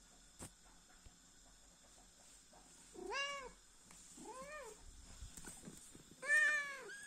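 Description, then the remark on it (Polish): A sphynx cat meows three times in a chatty, drawn-out way, each call rising and falling, with pauses between. The calls are fairly loud, with no talking. “Sfinksy to są bardzo rozgadane koty.”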